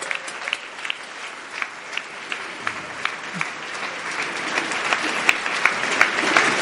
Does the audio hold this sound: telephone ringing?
no